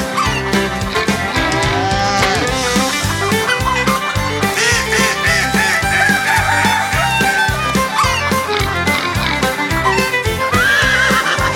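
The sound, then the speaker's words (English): Horse whinnies and rooster crows ring out amid a lively, bouncy barnyard hoedown song with a steady thumping beat, the animal calls mixed in loudly and repeatedly throughout. “It's a neighing, braying, oinking and a cooking, mooing, hooing, cock-a-doodle-dooing, barnyard hoedown, hoedown.”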